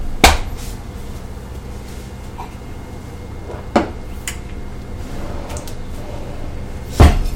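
Kitchen drawers or cupboards bang open and shut three times, at the start, middle and end, while someone waits for food to cook; sharp wooden knocks over a quiet hum.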